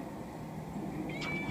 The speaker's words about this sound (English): this is the stray that Ricky gets in fights with all the time. Hi pumpkin. He's actually a really sweet cat.